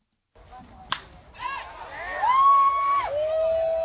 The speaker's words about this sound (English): But listen to the ball off the bat again.